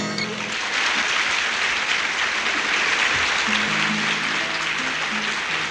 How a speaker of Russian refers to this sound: Аплодисменты — это очень приятно. И действительно, это когда так благодарят, да еще поутру так рано. Вот, это очень приятно.